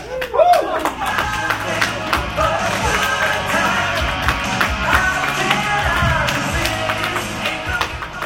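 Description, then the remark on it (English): A roomful of people applauding steadily, a dense wash of many hands clapping at once, fairly loud and sustained throughout with a brief rising whoop near the start. “You might as well keep your applause going.”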